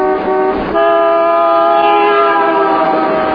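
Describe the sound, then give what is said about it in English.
A loud car horn blares, a short honk followed by a long, steady sustained blast with a brassy, buzzing tone, and no voices. “The only thing that does work is this lousy horn.”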